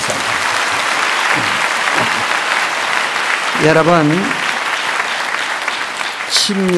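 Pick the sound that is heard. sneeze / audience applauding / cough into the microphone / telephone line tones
audience applauding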